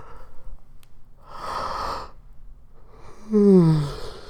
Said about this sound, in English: It's the worst. Because once I start yawning, after you start yawning, it's a chain. And then you're going to yawn again.